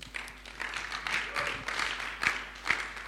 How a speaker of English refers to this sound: Can we as a church give a big round of applause to the young adults in this church?